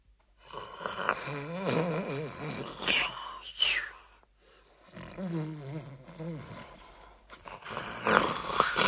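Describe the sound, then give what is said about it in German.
Two long, loud snores from a human voice imitating the wolf snoring in a Little Red Riding Hood story. Each is a rough, rumbling, wavering groan ending in a hissing, breathy rush of air, with a short pause between them. “Komisch. Die alte Frau schnarcht aber heute laut.”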